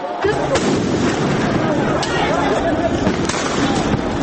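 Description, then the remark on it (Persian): Police in Rio de Janeiro fire tear gas and rubber bullets at protesters numbering about 300,000: several sharp bangs pop out at irregular intervals over the dense, constant roar of the large crowd, with voices mixed into the din. “در ریو دو ژانیرو جایی که میزبان مهمترین بازی های جام فوتبال کنفدراسیون هاست، پلیس گاز اشک‌آور و گلوله های لاستیکی به سوی تظاهرکنندگانی شلیک می کند که شمارشان بالغ بر 300,000 نفر می شد.”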